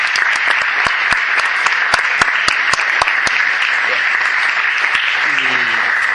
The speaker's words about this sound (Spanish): Yo creo que desde aquí les pido un aplauso para ellos, que son los...